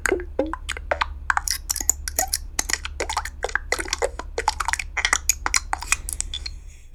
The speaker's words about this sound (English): So typically what I do is I create a bunch of button sounds.